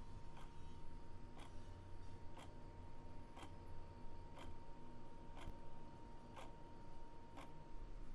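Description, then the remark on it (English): A wall clock ticks steadily about once per second, with eight crisp, evenly spaced clicks over a constant low hum and faint background noise. “And here's a wall clock going tickety-tock.”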